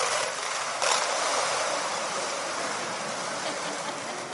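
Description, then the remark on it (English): Candy pours from small cups into bowls at a worship gathering as a dense, continuous rattle and clatter of many small hard pieces, steady and fairly loud throughout, like several people pouring at once, with no talking. “Okay, so you're going to pour your candy into the bowl.”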